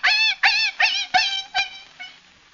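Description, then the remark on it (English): A man's voice imitates the pained yelping of Asta, the wire-haired fox terrier of the radio program The Adventures of the Thin Man, as someone steps on his paw: six sharp, high-pitched yelps in quick succession, loud at first and growing fainter and weaker toward the end, with no talking. “Somebody steps on Asta's paw.”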